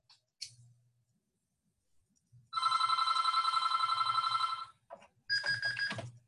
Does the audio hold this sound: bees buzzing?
no